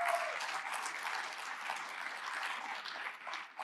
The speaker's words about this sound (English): You guys woke up and started doing your journaling already today in your new journals. Give yourselves a round of applause, please.